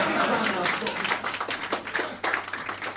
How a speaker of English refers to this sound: So it's about time somebody said this. Let's have a round of applause for everyone who wiped those episodes. Come on.